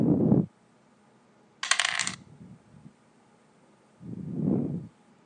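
A short, bright clattering rattle of dice tumbling and settling in a dice game, set between dull low thumps at the start and end of the synthetic game sound effect, with no voices.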